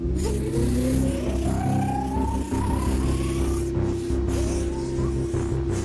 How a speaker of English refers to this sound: Alright, just to backing up the time truck. The Atrociraptors are following. Now turning it around and going!